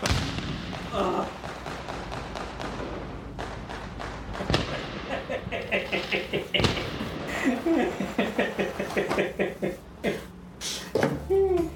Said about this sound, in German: Und es knallt, aber nur das Feuerwerk am Himmel. Denn die Explosion ist verhindert worden.